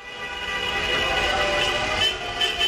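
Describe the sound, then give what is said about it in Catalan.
A dense, continuous blare of many car horns sounding at once as people in the streets of Salou celebrate on 30 October 1989, setting off rockets; the sustained tones overlap into a loud, unbroken wall of honking with a few sharper bursts near the end. “Gent al carrer fent sonar els claxons i els cotxes i tirant coets.”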